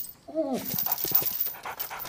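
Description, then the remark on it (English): A pit bull dog, wearing a collar on a heavy chain leash secured to a crate, gives a brief high whine, then pants in quick, breathy bursts, the rapid rhythm continuing steadily to the end with no other sounds. “He puts a collar attached to the heavy chain leash around the dog's neck and secures him to the crate.”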